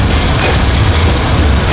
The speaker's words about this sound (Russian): Чем моя машина отличается от многих? 120 км в час в обычной машине.